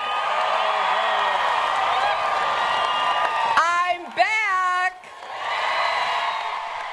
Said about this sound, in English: I can tell you this was a very enthusiastic crowd, and she was, you know, milking it there.